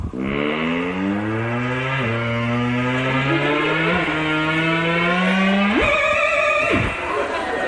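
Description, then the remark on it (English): An electronic instrument mimics a car accelerating, its buzzy tone climbing in steady sweeps that reset like gear changes, then leaping higher before dropping away; loud and continuous, with no talking. “Here's an impression of a car.”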